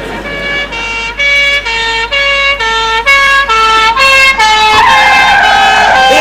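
A loud police car siren wails in a steady two-tone pattern, alternating high and low notes about twice a second, with no talking, growing busier and more blurred toward the end.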